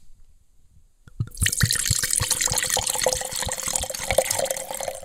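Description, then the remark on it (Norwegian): After about a second of near silence, Spanish red wine starts pouring steadily into a glass for a second glass, a bright splashing trickle with gurgling pulses that continues at an even level to the end. “jeg har tenkt å teste den nå, det vil si jeg har faktisk, jeg smakt, tok et glass, tenkte jeg, ja, nå må jeg lage podcast på dette her, for dette synes jeg var litt spennende, så nå må jeg ta glass nummer 2.”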